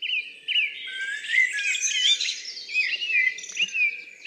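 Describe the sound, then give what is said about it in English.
A blackbird in full song and a song thrush singing together up close in Scotland, their rich warbling phrases and repeated notes overlapping continuously, with no voices and only a faint low background murmur. “A blackbird in full song, right on top of one of Ken's mics, and I've got a song thrush on the other mic.”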